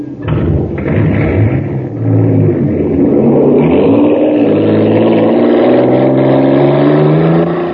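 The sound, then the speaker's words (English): The engine of the racer called the Shooting Star, filled with super fuel, roars and accelerates steadily, its loud buzzing drone climbing in pitch with rising harmonics over several seconds, with no voices. “Wow, look at the shooting star go.”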